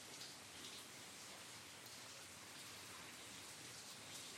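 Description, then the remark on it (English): Steady rain falls outside at night, a dense, even hiss of countless drops pattering on surfaces, constant and unbroken throughout with no voices or other sounds. “Rainy nights are good for meditating. If your mind wanders outside, it runs into the rain, which drives it back in.”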